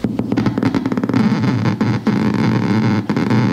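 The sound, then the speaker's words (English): Electric eel discharges picked up by electrodes in the water and played through a speaker: a quick run of loud clicking pulses that speeds up into a harsh, continuous electrical buzz, broken by two brief dropouts. “What's more, he had electrodes in the water so he could listen to their electrical output through a speaker.”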